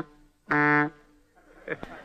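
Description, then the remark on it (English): An old-fashioned early radio sound effect of a moving automobile: a short, loud, steady horn-like drone lasting under half a second, followed by softer rumbling and a couple of quick clatters. “Yesterday in radio, a moving automobile sounded like this.”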